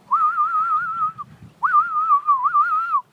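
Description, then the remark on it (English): A person whistles two long, steady notes with a slight warble, separated by a short pause, fairly loud with no talking, to lure a karata. “and then you stop, and you start whistling.”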